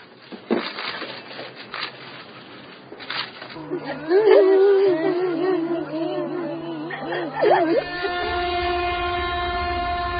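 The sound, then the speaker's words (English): After a few seconds of muffled background noise, train horns across China's railway network blare at 2:28, one week on, during national mourning, in long, loud sustained blasts that overlap and waver before settling into one steady, continuous tone. “And across China's vast railway network.”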